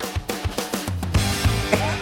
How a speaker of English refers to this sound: listen to the song that was playing in the cop's car, though. Here it is.